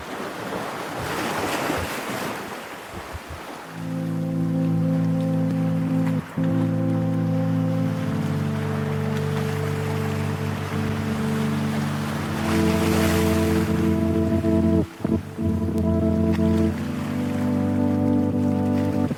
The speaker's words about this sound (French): Commençons par écouter une de ses sessions en bord de mer, avec un lecteur de cassettes audio Fostex.